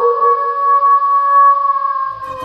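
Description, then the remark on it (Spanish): A wolf lets out one long, steady howl, holding a clear tone with little wavering for about two seconds before it breaks off into rougher noise at the end. “El primer antepasado del perro fue el lobo salvaje.”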